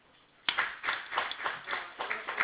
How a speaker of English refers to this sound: Oh, can we put our hands together?